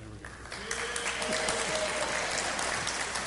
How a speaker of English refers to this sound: I always appreciate an applause after the sermon, but it's really nice to get one before.